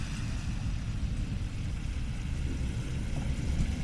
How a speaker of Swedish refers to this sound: Jag står och väntar på att det ska bli grön gubbe. Då åker en spårvagn förbi.